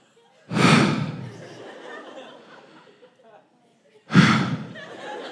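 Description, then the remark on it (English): A voice imitates the heavy breathing of a tired runner 7 miles into a run: two loud, breathy heaves a few seconds apart, each trailing off into quieter panting. “But the middle of that race, you ever been 7 miles into a run and all you can hear is your own breathing?”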